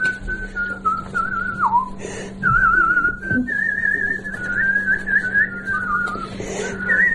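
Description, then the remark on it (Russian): A pensioner from Vyatka whistles a lively melody, the pitch warbling and sliding up and down in a continuous run with a few brief breaths, fairly loud over a steady low hum. “а научите меня так свистеть.”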